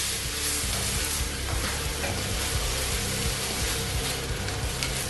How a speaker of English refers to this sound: But it's just constant stirring and bunawing and creating the delicious keema pav.